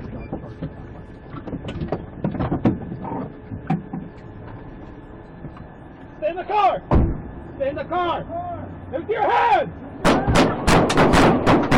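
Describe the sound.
Loud, sharp gunshots ring out in a rapid burst of several cracks near the end, after raised, shouting voices and a few earlier isolated bangs over a steady engine-like hum, recorded on a police dash cam as a New Mexico State Trooper fires during a traffic stop in Hobbs, New Mexico.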